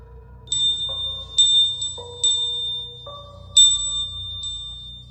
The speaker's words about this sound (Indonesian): Tapi malam itu tiba-tiba Pak Karbin terbangun dari tidurnya karena dia mendengar ada suara lonceng dari arah kamar almarhum Kinasi.